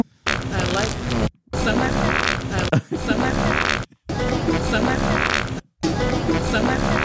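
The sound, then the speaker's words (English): Loud, close-up farting noises, recorded with the microphone very close to the person's backside, come in several long, rumbling bursts, each cut off by a brief silence before the next begins. “he has an ass mic. He has a fart mic like Christina P.”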